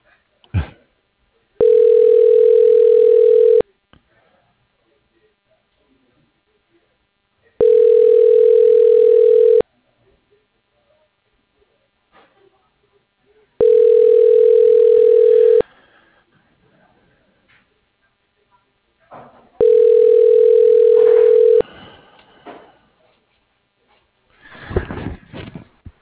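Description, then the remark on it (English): A telephone ringback tone purrs four times in steady, evenly spaced bursts about two seconds long, with quiet gaps between and some faint rustling and a brief noise near the end. “the phone, man. One sec.”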